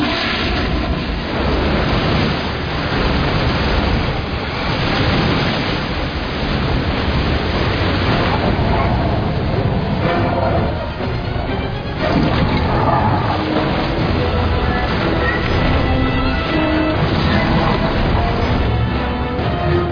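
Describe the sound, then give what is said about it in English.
Loud, steady rushing water roars continuously, like a powerful flush or torrent, with a full, churning texture that surges slightly in places and never lets up. No voices are heard. “We're being firewalled and flushed.”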